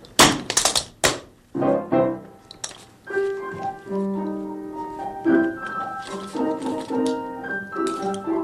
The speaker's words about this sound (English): First, I come up and I knock on the door.